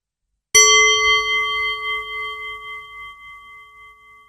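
A hand-held singing bowl, held close to the microphone, is struck once and rings out with a bright, shimmering tone, slowly fading over several seconds. The sound is clear, with no talking.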